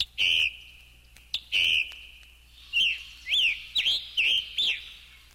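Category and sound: bird, bobolink song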